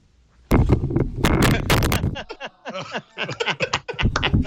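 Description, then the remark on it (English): A microphone gets knocked over with a sudden loud thump, followed by a second or so of heavy clattering bangs, and then people start talking. “Evil doesn't have a microphone to knock over.”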